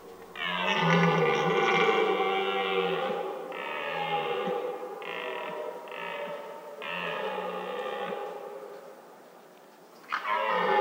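A red deer stag bellows in a series of long, loud, groaning roars, several drawn-out calls in close succession, then a short pause before another begins.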